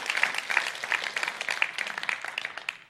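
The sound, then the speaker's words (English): A church audience applauds steadily because a teenager's sister is being baptized. Many hands clap in a dense, crackling wash that holds for about three seconds and fades slightly at the end, with no voices standing out. “Yeah, you could clap. You could clap.”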